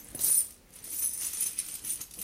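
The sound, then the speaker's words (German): Gold and silver coins from around the world clink and jingle as they are shaken from a small linen pouch, a bright metallic rattle of several overlapping clinks over about two seconds, with no voices. “Lauter Gold- und Silberstücke.”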